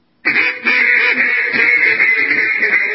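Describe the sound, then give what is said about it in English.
A loud alert sound effect of rapid duck quacking, a skeptic alert set off by the word quack, bursts in after a brief silence and keeps going nonstop for about three seconds, with no talking. “And that, folks, that is our skeptic alert. It just went off.”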